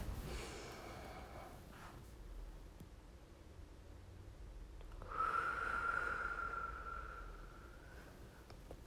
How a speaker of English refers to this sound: Now we're going to start by breathing. Taking a huge deep breath in. We're going to hold it for 5 to 7 seconds. And we're going to slowly release it through our mouth as if you were breathing through a straw.